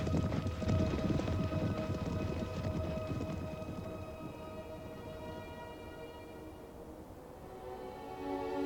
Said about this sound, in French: Simba regarda par-dessus la crête au moment où son père disparaissait dans le tonnerre du martèlement des sabots.